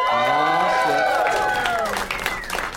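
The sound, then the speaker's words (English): A loud crowd at a show in Las Vegas cheers and whoops, many voices rising and falling together, while steady clapping fills in underneath and continues at full strength throughout. “It's a mellow crowd here tonight in Las Vegas.”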